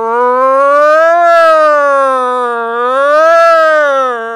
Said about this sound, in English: You hear the sounds and the sirens.